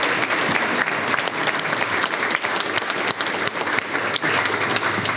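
A crowd applauds steadily, with many hands clapping in a dense, continuous wash of sound at an even loudness for several seconds, no voices standing out.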